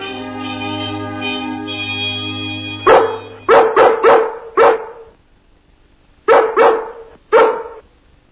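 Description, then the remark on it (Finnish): Dogs bark to relay a message along the Hämyhaukku, a dog gossip chain across London: a quick run of five sharp, loud, clear barks, a short pause, then three more. A steady humming tone fills the opening seconds before the barking starts. “Hämyhaukku, kulta, se on vain juoruketju. Kulta, se on nopein tapa värittää tietoa.”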